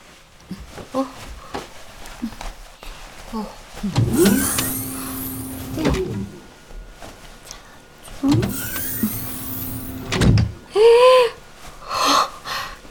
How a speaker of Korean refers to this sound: 무슨 집안에 자동문이 있어? 우주선 조종실인 줄?